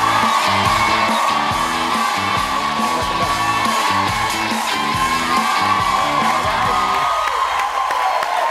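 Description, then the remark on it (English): A large TV talk show studio audience cheers, whoops and yells loudly and continuously as a guest actor is welcomed, a dense roar of voices over rhythmic background music that never lets up. “What a crowd.”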